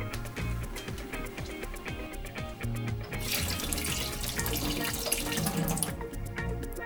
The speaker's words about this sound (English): This is the kettle. Put some water in it.